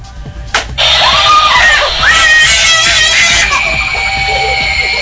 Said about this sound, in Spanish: No, pues ahí se ve claramente cómo la niña grita y ni siquiera se puede mover, o sea. Y no quiere, ¿no? No quería eso. No quiere, pues no, o sea, la mamá la obliga a que se pare ahí y se asuste.